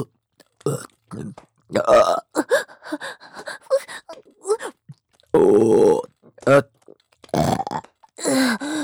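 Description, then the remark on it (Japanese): A series of loud burps, several short and one long drawn-out, croaking belch near the middle, with breathy gasps and small vocal noises in between. “ゲップもご主人様好きですし、私もゲップするたびに喉が刺激されて、いっぱい感じちゃう。”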